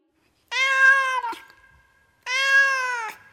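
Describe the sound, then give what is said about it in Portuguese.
A cat meows twice, each a long, loud, tonal call, separated by a short pause with no other sounds. “Os gatos miam.”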